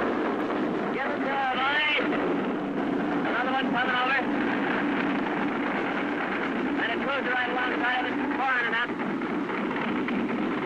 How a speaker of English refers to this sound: Our own ship has just gave its warning whistle, and now the flak is coming up in the sky. Looks like we're going to have a night tonight.